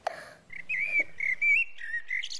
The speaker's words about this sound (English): The birds are tweeting and cheeping.